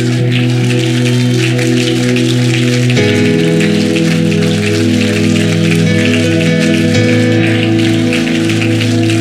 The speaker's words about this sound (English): Stand up and clap your hands right now.